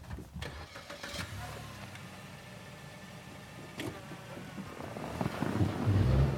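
A car engine turns over and catches, then settles into a steady low rumble that builds and grows louder as the vehicle pulls away, with some wind buffeting and no voices.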